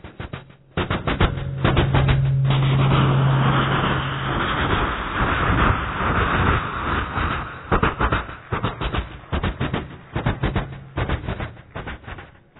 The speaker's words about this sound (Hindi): रेलगाड़ी पटरी पर चलती है, पटरी से आवाज आती है। उसके बाद रेलगाड़ी एक पुल के ऊपर से गुजरती है।